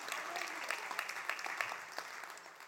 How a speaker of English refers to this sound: You can clap for that.